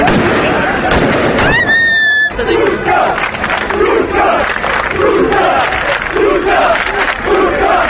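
In Novi Pazar, Sandžak, Serbia, a loud crowd cheers and chants "Ovo je Turska" ("This is Turkey") in rhythmic waves after Serbia's basketball team lost to Turkey at the World Cup, with sharp fireworks pops and crackles early on and a whistle-like tone rising over the dense, continuous roar.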